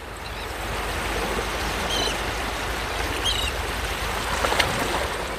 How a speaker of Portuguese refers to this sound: Mas é nessa paisagem bucólica de mar e gaivotas, né, …? Exatamente. Que lembra o famoso velho porto charmosíssimo de Marselha, que nós voltamos a conversar sobre a França.